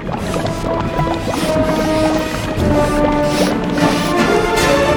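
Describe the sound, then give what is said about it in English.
A small toy boat glides through water in a dark drain with steady sloshing and splashing, a continuous wash of churning water that holds an even level throughout, with no voices. “The boat sails by the rat. The rat chases the boat.”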